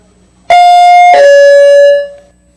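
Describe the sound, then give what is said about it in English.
A loud two-note bell chime, the second bell marking the end of a segment, rings out on its own, the second tone struck just after the first and slightly lower, humming steadily before fading away. “All right, that's the second bell, and as usual, I got lots more stuff to talk about, but it can wait for another time.”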